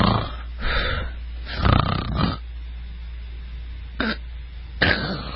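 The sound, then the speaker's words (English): A voice imitates the snoring, choking and gasping of sleep apnea, with harsh snorts and gasping bursts around a sudden pause in breathing, then a couple of short catches of breath. Fairly loud, no talking. “Their family member may know if they have sleep apnea because they may gag in their sleep, choke, gasp, or stop breathing.”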